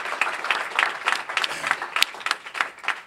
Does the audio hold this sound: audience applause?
yes